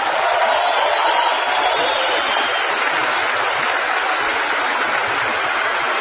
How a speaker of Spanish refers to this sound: Ven a darle un fuerte y merecido aplauso a nuestros softlines,